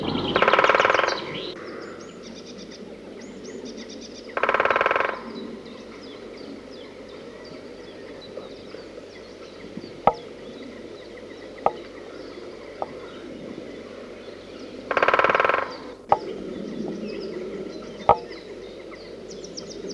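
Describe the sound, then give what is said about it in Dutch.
Three short bursts of rapid great spotted woodpecker drumming ring out, spaced several seconds apart, with its sharp single call notes scattered between them over a quiet outdoor background. “De grote bonte specht.”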